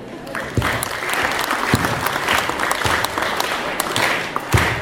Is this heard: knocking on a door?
no